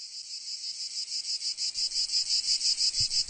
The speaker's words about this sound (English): What you can hear is a collection of insects. These miniature musicians are considered to be some of the first organisms to use sound as a form of communication.